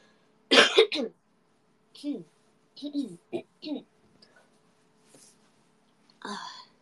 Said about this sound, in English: My coughs have gotten more clear. Like, they're less painful now. Not as painful as before.